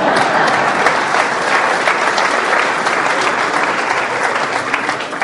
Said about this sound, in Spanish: ¡Ahí hay uno! Bueno, como es el único, tocarle un pequeño aplauso, por favor.